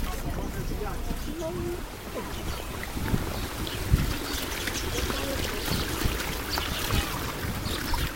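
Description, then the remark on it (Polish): A boat moves across the water of the Sea of Galilee on a trip of about an hour, with a steady low engine rumble and constant wind buffeting the microphone, while muffled voices sit faintly underneath. “Idziemy na łódkę, zajmie tam około godziny.”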